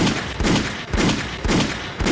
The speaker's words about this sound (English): Gunshots in the motherfucking chat.